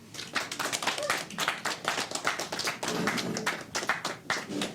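A crowd applauds steadily, many hands clapping in a dense, crackling patter that holds at a fairly even level throughout, with no voices over it, welcoming the founder of the Ritz during the festival for the Ritz's birthday.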